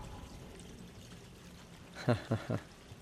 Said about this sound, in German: Jetzt lassen wir das Wasser raus. Und dann kann ich da rein und kann rausholen, was da drin ist.